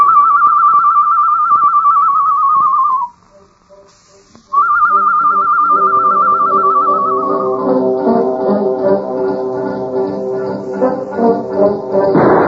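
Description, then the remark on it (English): A person whistles a bird-call imitation: two long, steady high notes, each sliding down at the end, separated by a short silence, with a richer tonal sound swelling beneath the second. “Me make bird call, huh?”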